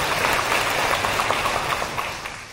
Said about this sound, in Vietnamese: Toàn thể chúng ta cho một tràng vỗ tay để cung thỉnh Ni sư.